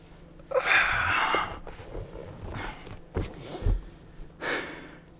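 Heavy, breathy panting from a shirtless, sweating man in a gym: a long rasping exhale, a few shorter huffs and a sharp snort-like breath, then another drawn-out breath, with no talking.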